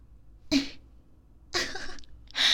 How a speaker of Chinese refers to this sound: 竟然咳嗽了。是觉得痛苦吗？